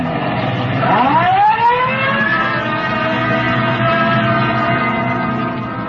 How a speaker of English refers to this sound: Code 3, red light and siren.